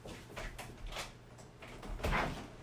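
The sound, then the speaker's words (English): A pet scratches at a door to be let in, in a series of short, rough scraping bursts, irregularly spaced and fairly quiet, with the strongest scratch near the end. No one speaks. “She's scratching the door again.”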